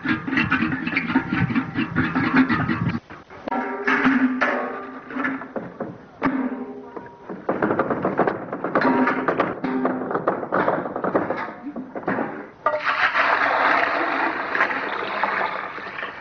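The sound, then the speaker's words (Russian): A woman draws water from a well: steady splashing and pouring in several long bursts separated by short pauses, with no one talking. “Вот за водой на колодец Маргарита сходит с удовольствием”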